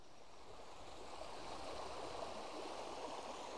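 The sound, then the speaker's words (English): A small stream, Thornthwaite Beck, rushes and burbles steadily at the bottom of a hill beneath a narrow stone packhorse bridge, a continuous wash of running water with no voices or other sounds over it. “As we've reached the bottom of the hill, we've made it to Thornthwaite Beck and this lovely little pack horse bridge.”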